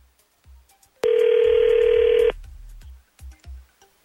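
A telephone rings once on the line as radio show hosts call someone to see if he picks up: a loud, steady, mid-pitched tone lasting just over a second, surrounded by soft, low thumps from the phone being handled or dialed.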